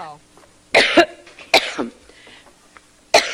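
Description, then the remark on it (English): Hillary Clinton coughs during a campaign speech in three harsh, explosive bursts, loud, with brief pauses between them and a faint breathy catch in the gaps. “This is a remix of her coughing, right? No, it's not. It's the real thing.”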